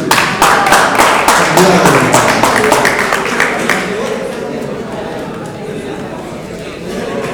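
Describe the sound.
An audience claps together for about three seconds, a burst of sharp, dense hand claps that then fades into a steady murmur of crowd chatter and voices.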